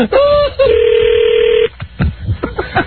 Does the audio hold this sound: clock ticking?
no